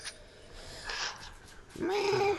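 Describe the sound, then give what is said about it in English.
A person's voice attempts an eagle screech, producing a breathy hiss and then a sustained, wavering mid-pitched squeal that sounds more like a cat's meow than a bird. “I can't do the high-pitched eagle squeaky noise that they do.”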